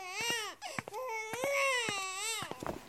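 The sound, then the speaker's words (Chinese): A baby wails, loud, high-pitched cries that rise and fall in long drawn-out bursts, broken by a brief catch of breath, with a few faint clicks in the background. “哎呀，宝宝，别哭，妈妈喂你吃奶。”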